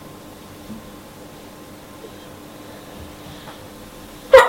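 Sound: sneeze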